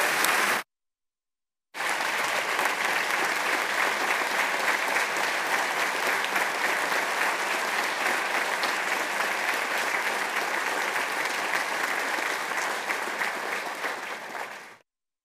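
An audience in the Florida House in Tallahassee applauds: a brief burst of clapping, a moment's silence, then steady, dense applause that holds evenly for about thirteen seconds before tapering off. No voices are heard.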